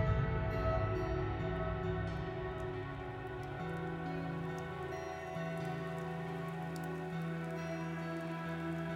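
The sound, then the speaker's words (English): Steady rain falls at night under overcast skies, pattering continuously on a surface for the whole stretch, an even wash of drops with a low sustained hum underneath and no voices. “It was overcast, rainy, definitely not a nice night for a walk.”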